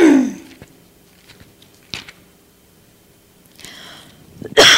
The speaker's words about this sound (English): Excuse me. I mean to cough right in the microphone.